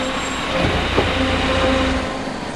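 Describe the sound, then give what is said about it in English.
A large Southwest Transit bus engine rumbles steadily as the bus pulls out of the station, a loud broad drone with faint whining tones rising in pitch and a single soft clunk partway through. “The bus pulls out of the station.”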